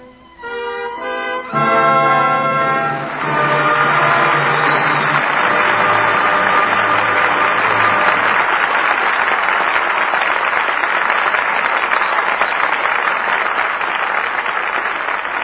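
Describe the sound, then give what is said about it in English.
A theater audience breaks into steady, loud applause for the night's performance after a brief swelling orchestral chord; the music fades beneath the clapping, which continues on its own, dense and sustained, to the end. “But your applause for tonight's performance calls our stars back to the footlights.”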